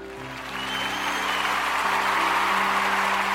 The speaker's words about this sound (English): Hear the applause? This is fun.